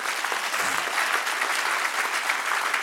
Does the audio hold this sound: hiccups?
no